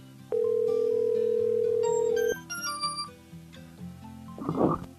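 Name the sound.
phone call dialing tone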